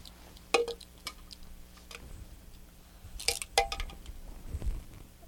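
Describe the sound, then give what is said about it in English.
Liquid is poured into a cup, with wet squishing, dripping and a few sharp clinks against the vessel, coming in short bursts with quiet gaps between. “Can you pour it in there for me? Or scoop it? Pour it in there.”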